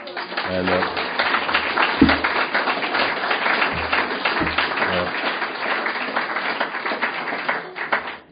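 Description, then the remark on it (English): Sustained audience applause for Alcoholics Anonymous, a dense, steady roar of many hands clapping for about eight seconds before tapering off at the end, with a man's voice faintly heard beneath it. “And I recognize all this applause is for Alcoholics Anonymous.”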